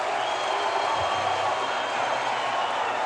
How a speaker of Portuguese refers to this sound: Acontece o seguinte, aqui na plateia só tem pessoas inteligentes como eu tô vendo. Quer dizer, vocês estão vaiando a vocês mesmos. Vocês estão vaiando a seis meses.